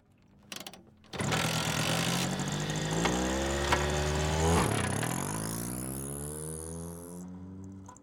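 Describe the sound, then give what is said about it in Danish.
A small two-stroke moped engine starts up and revs hard, its whiny pitch climbing and dipping with stacked harmonics, then settling into a steady buzzing drone for several seconds. “Kom af med knallerten.”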